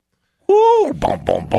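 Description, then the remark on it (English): Mike Tyson imitates a pigeon cooing: a loud, sustained throaty note that slides downward in pitch, followed by a few short, rhythmic guttural pulses. “it's Mike Tyson imitating a pigeon”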